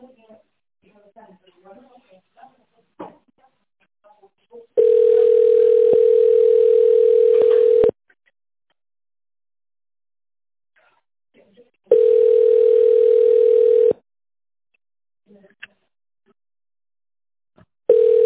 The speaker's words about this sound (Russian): Если вы знаете внутренний номер нужного вам сотрудника, наберите его на вашем телефоне после сигнала.